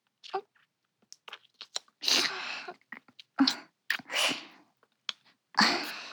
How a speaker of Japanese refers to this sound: どう？耳舐められると感じるよね。反対も。